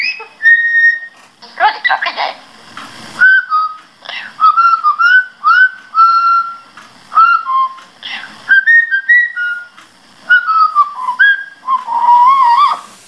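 A pet parrot named Rozika whistles a bouncy tune in clear, pitch-sliding phrases, with short gaps and a few harsher squawky notes mixed in, fairly loud and with no talking over it.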